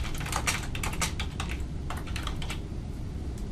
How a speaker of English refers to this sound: do all the same things that you saw, again, with a little bit more screen real estate and optimized for, in this case, being able to click in with my mouse and then type with my keyboard.